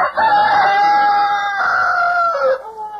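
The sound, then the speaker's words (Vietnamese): Roosters crow loudly at daybreak, one long sustained call with a bright wavering tone that drops at the end, followed by another crow starting as it fades. “Anh ta đi không bao lâu thì phía trước nghe tiếng gà đua gái, hướng đông thấy ló dạng mây ngang.”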